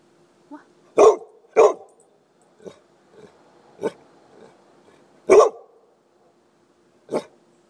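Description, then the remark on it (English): A dog barks in short, sharp bursts, about five loud barks with a few softer huffs between them, spaced irregularly with quiet pauses and no one talking. “You tired, dog?”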